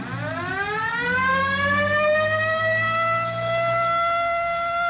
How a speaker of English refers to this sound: Better hit the siren.